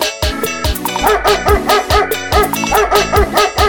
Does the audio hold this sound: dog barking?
yes